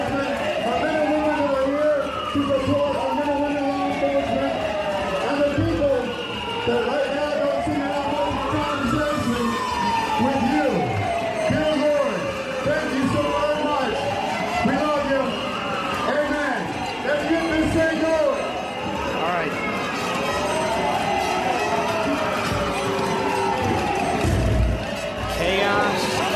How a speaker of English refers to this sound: Those are not police sirens, by the way. That is all noise from the radicals that invaded our event.